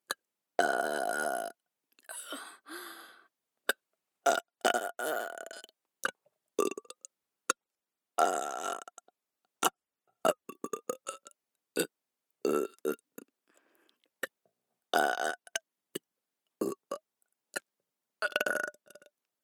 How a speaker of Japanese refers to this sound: 汚いゲップ聞きながら勝手にしこれ。